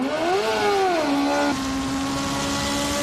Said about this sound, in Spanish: Los motores volverán a rugir en la capital, aunque esta vez no será en las afueras, como antes en el circuito del Jarama.